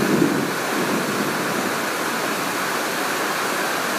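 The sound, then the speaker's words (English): Steady heavy rain, falling for hours, pours down in a dense, continuous loud hiss, with no pauses or changes across the whole stretch and no voices present. “There are parts of the world that would love to get this sort of rain.”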